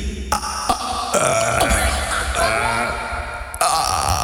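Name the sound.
burp on command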